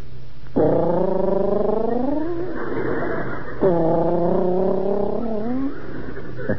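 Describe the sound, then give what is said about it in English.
A voice imitates a lovebird's low, cooing whistle: two drawn-out, wavering calls that slide slowly upward in pitch, each fairly loud and separated by a brief pause, with no talking. “They whistle. Sort of a low, cooing whistle. Like this.”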